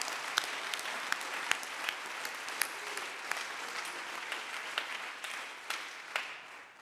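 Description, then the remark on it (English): A church audience claps to the Lord during a service, a steady, dense wash of many hands with sharper individual claps popping out, sustained at a fairly even level throughout with no voices. “Would you clap your hands one more time unto the más Lord?”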